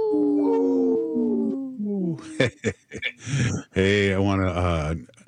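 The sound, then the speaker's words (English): A long, wavering wolf-like howl done by a human voice, falling slightly in pitch. Loud, choppy yelps and a second rising-and-falling howl follow. “This portion of the show is supported by Howling for Wolves, protecting wolves for future generations.”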